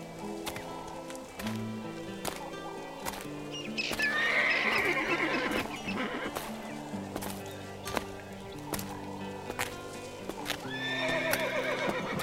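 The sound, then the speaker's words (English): Wild horses on an island whinny loudly, with a long neigh early on and another near the end, while sharp hoof clip-clops strike in a steady, evenly spaced rhythm throughout. No one speaks. “Although, I'm careful not to approach and disturb the horses and water buffaloes.”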